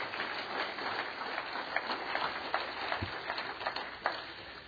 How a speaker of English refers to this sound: Give Ed a big round of applause, please.